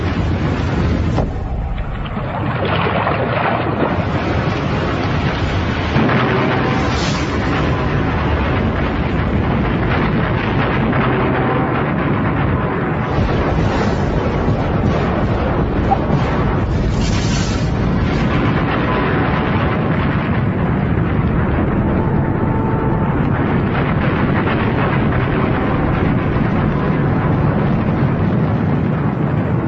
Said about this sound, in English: The blast of a super eruption would be awesome enough, but it's nothing compared to what would follow.